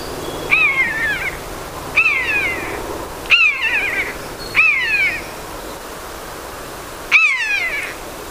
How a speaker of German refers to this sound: So klingt der Mäusebussard.